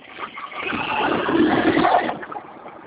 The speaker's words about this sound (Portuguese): Espera que eu vou encostar a moto, espera um pouquinho.